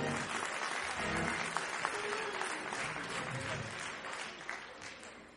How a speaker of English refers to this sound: Now put your hands together and give the Lord a hand clap.